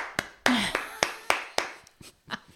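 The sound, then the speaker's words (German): One person claps loudly, roughly nine sharp, ringing claps at a steady, unhurried pace that gets a little uneven near the end. “Ich würde jetzt klatschen, aber es ist vielleicht in einem Audiomedium.”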